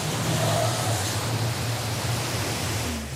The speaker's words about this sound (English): I can speak whale. Ooh, there's one now. Let's take a listen.